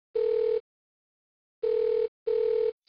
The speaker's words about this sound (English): Dad then made a phone call.